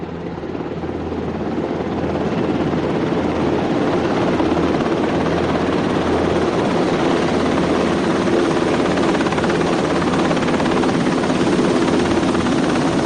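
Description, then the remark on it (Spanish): A maneuver helicopter of the Belma 3 battalion from Agoncillo, bringing Melchor, Gaspar and Baltasar to Logroño, La Rioja, roars steadily and loudly throughout, its rotor and engine giving a continuous low thumping pulse beneath a broad whine, unchanging with no voices. “Un año más, Melchor, Gaspar y Baltasar llegarán a la capital riojana en helicóptero gracias al acuerdo entre el Ayuntamiento de Logroño y el Ministerio de Defensa con su batallón de helicópteros de maniobra Belma 3 de Agoncillo.”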